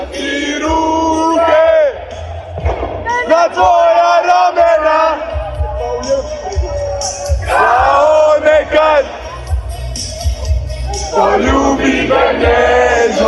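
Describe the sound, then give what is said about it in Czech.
A large crowd of fans across Croatia sings and chants loudly together, celebrating after the national football team's World Cup match in Qatar, voices swelling into bursts of cheering and shouting, with the dense, continuous roar of many people throughout. “A pjeva se i diljem Lijepe naše.”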